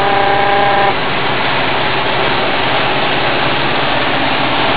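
A vehicle engine roars steadily and rattles heavily while driving 150 kilometres from Cosenza, loud, with a constant rough rumble and rushing wind noise; a brief tonal hum sounds in the first second.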